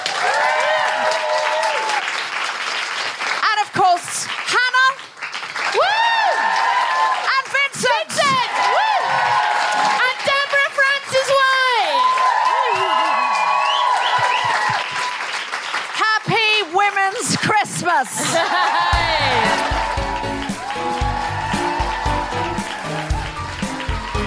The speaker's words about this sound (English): A huge... round of applause and thank you for the incredible Fern Brady. The wonderful Alison Spittle. A big round of applause for everyone at Soho Theatre.